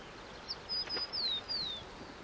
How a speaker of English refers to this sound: We watched a tern feeding in the fresh water of the river just before it emptied into the bay. The tern flew in tight circles, calling its one-syllable chirp over and over. Then it would occasionally dive for a fish, which you might hear just now.